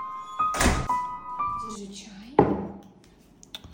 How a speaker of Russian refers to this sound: Дверь закроешь.